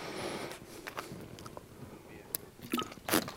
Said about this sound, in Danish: Jeg tager lige lidt vand.